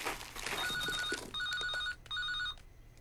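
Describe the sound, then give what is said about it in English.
A mobile phone rings in three short, repeated electronic bursts, with rustling and rummaging at the start as someone searches for it in a mother's enormous bag, where it sits in a brown paper bag of biscuits; no one speaks. “Millie searches for the phone in her mother's enormous bag.”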